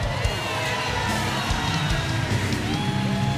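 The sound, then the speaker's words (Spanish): An audience claps and cheers steadily, with whoops and yells rising out of a dense, continuous wash of crowd noise that stays loud throughout. “Vamos a darle el aplauso.”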